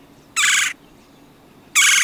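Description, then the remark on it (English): A red-bellied woodpecker gives two loud, buzzy rolling churr calls, each about a third of a second long and roughly a second apart, with no talking. “Whoever first named the species must have had a wry sense of humor, for on this strikingly patterned bird, the last thing you would likely notice is a slight blush of rose on its lower belly.”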